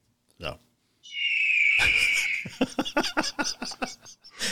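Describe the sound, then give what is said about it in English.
A loud, sustained high-pitched eagle screech lasting about a second, followed right away by a rapid burst of laughter. “The screaming eagle.”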